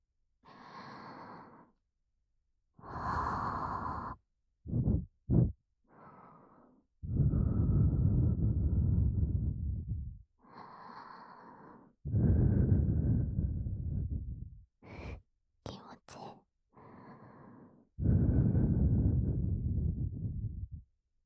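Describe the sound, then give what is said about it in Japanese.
Soft, breathy blowing into the ear comes in a series of gentle puffs, some long and airy, others short and quick, with brief pauses between them and no talking. “いっぱいフーフーしちゃおう。”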